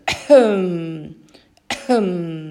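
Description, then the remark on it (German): A soft voiced cough that slides straight into a gently falling hum, heard twice with a short pause between, clear with no talking. “Sondern anstatt diesem Räuspern dann bitte stimmhaftes Hüsteln.”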